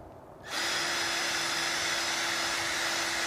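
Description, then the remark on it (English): A power drill revs up after a brief quiet moment and spins steadily, a loud, continuous whir with a sustained motor hum, running a small scrub brush attached to a bolt and locked into the drill, used for cleaning grout and tile, with no one talking. “cleaning the moldy grout in your shower stall by attaching a small scrub brush to a bolt. You can stick it into your drill like so, lock it in place.”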